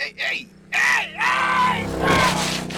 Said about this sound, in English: screamed like a terrified child and dove for cover.